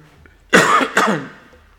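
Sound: cough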